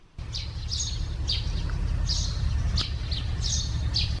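Birds call repeatedly from woodland groves around the village of Vodičevo in already chilly weather, short bright chirps recurring every half second or so, over a steady low rumbling background hum. No one speaks.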